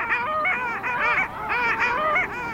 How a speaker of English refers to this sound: On this lake right now, there's an incredible congregation of long-tailed ducks. A huge group of males is vigorously competing to attract females to fend off and fight off rival males. They're splashing and fighting and chasing,